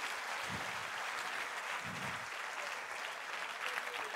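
A church audience breaks into sustained applause for the Lord, a dense, steady wash of many hands clapping at even loudness for several seconds, with a couple of brief low vocal swells underneath.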